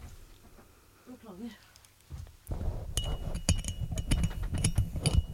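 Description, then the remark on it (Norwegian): A small metal screw is dropped and clinks repeatedly as it bounces and rattles on a hard surface, a rapid scatter of sharp, bright ticks, following a brief voice. It is the third time the same screw has been dropped. “Tredje gang tar han mistet samme skrue.”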